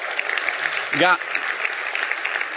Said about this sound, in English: Wonderful things. That's worth a hand clap.